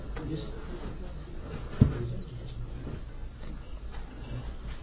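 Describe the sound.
A door shuts with one short, dull thud partway through, set against steady room noise and faint background voices.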